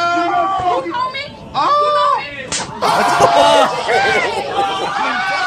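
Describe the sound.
A single sharp slap in a video clip cracks out midway through, surrounded by loud, overlapping crowd chatter and excited shouting voices that carry on before and after it.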